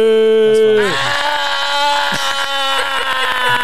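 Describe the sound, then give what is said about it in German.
A voice imitates a camel's bleating call, a loud, drawn-out nasal bray that drops in pitch partway through and continues as a rough, sustained groan. “glaubt ihr, wie macht so ein Kamel? Oder wisst ihr das? Ich glaube, die machen so, die blöken so.”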